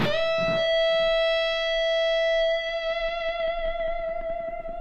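A single distorted electric guitar note rings out and holds steadily, swelling into feedback that sustains with a slight wavering vibrato toward the end. Loud and close, with no voices.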